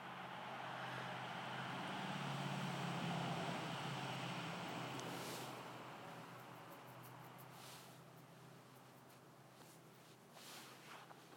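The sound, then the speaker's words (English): A noisy truck comes up the road, its low, steady engine rumble swelling to a peak and then slowly fading, a continuous roar of road noise with no voices and a few faint clicks near the end. “That bloody noisy truck has to come up the road.”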